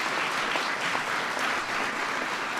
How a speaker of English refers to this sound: Congresswoman Jane Harman, Congresswoman Laura Richardson, Congressman Adam Schiff, Congressman Brad Sherman, and Lucille Roybal-Allard. Please, everybody, give them a big round of applause.